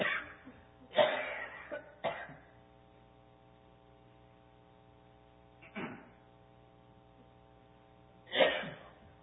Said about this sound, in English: I'm getting ready to cough again, sorry.